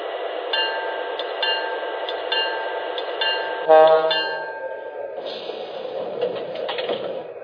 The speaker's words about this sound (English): Now arriving from Avery on track 2, train number 16, the Olympian Hiawatha.